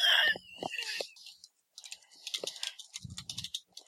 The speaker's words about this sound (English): All I hear is a bunch of typing. I'm sorry, I posted on that thread.